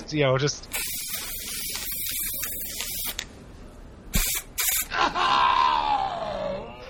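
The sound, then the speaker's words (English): A spray paint can, sprayed at a guard's eye, hisses loudly and steadily for a few seconds, then lets out two short, sharp bursts, followed by a drawn-out vocal cry. “I'm going to spray one of them in the eye with a spray paint like he's Roars from the Jumping Flash episode.”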